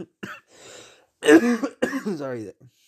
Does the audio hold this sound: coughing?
yes